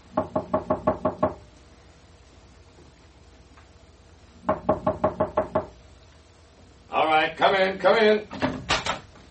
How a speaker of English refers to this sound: Why do you have to knock at that door